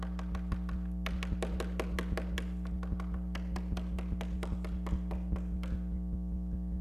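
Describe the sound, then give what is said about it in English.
A long run of sharp knocks on a door, steady and insistent, about three per second with brief pauses, fairly faint against a constant low electrical hum. No one speaks. “And he came up on one door that he began to knock on the door, and nobody answered.”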